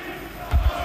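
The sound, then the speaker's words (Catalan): Barça stadium fans chanting "Barça sí, la porta no" as president Laporta and the directors leave, heard as a dense, blurred roar of many voices with a short, heavy low thump partway through. “En un moment que l'afició que hi ha aquí està acomiadant la porta amb crits de Barça sí, la porta no...”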